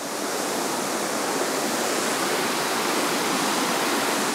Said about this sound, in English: After the cave tour, my dad and I drive over to Blanchard Spring, a giant hole in the mountainside with massive amounts of water spilling out, quickly reaching the North Sillimore Creek. The sound of the rushing water is deafening.